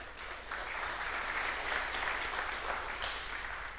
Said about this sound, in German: Da wurden 80 Kilogramm Gemüse geschnippelt. Hat da jemand von euch mitgemacht? Applaus.